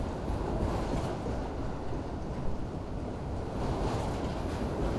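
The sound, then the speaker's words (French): A steady, heavy rumble of a train hauling ore wagons, rolling calmly along the rails across a rocky, sand-coloured desert plain in sunny weather of at least 40 degrees with little wind, continuous and even throughout, with a dense low roar and faint higher rattling on top, no voices. “Le train roule tranquillement. Il transporte des wagons de minerais.”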